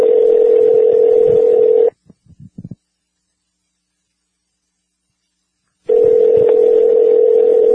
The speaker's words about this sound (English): I'm going to dial him on his cell phone, ladies and gentlemen, and see where we're dialing now.